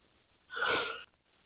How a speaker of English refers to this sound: So, but, you know, yawning. Who the fuck's yawning? Fuck, like tomorrow's Monday, man. That would be me. I'm sorry.